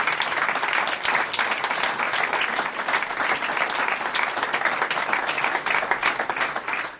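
Steady, dense applause from an audience for a group of women singers, many hands clapping in a continuous bright crackle at an even loudness for the full length, with no voices standing out.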